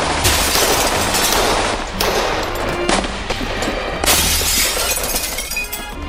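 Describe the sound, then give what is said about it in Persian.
Loud, repeated crashes of glass and windows shattering as Cossacks attack and seize the Cossack barracks in Tehran during a coup, with fresh bursts about every second and a continuous rain of breaking shards in between, dense, with no voices. “قزاق‌ها با حمله به قزاق‌خونه و شکستن شیشه‌ها و پنجره‌ها اونجا رو تصرف کردند.”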